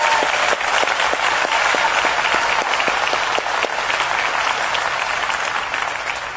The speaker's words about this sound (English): Stand up one more time, Sci-Fi. Let's give Sci-Fi a big round of applause.